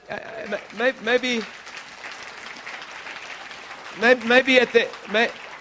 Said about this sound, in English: This may demand a bit of applauding, and we're applauding our... Not me. We're applauding the truth of the Word of God. We're applauding our new husband. So could you do that, Canadians?